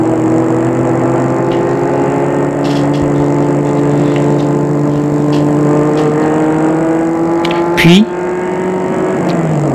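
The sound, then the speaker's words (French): A car engine hums steadily from inside the vehicle as the car climbs a small road into the countryside, its pitch slowly rising and falling, with a brief louder bump near the end; loud and continuous throughout. “Après une heure de route, la voiture prend une petite route qui grimpe et s'enfonce dans la campagne.”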